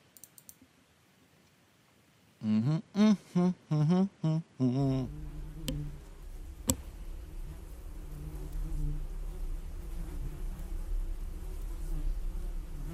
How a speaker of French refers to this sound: J'entends juste les abeilles.